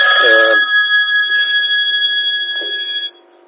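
A telephone rings during an amateur radio broadcast: a loud, steady electronic tone holds for about three seconds after a brief noisy burst at the start, then cuts off abruptly.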